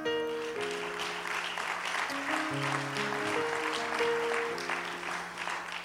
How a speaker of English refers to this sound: And I let her receive that genuine hand clap,